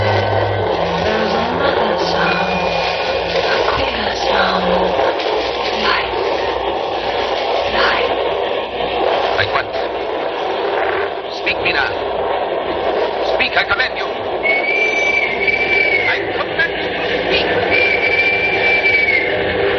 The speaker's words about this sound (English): I can hear far off, confused sounds. Men talking in strange tongues. Fierce falling water and howling wind.